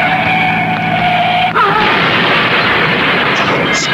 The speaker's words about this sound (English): Crashed and burning.